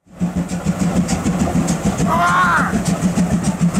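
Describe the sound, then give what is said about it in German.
An old steam locomotive chugs with a steady, rhythmic chuffing throughout, and midway a person's short, high-pitched scream rises and bends over the engine noise. “Das ist eine alte Dampflok und dann schreit da jemand.”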